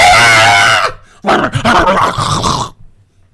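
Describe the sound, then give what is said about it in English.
A shih tzu attacking a child gives a loud, sustained high-pitched cry, then breaks into about a second and a half of harsh, frantic snarling and growling, intense, before it cuts off. “That's the you should dog attacking a child.”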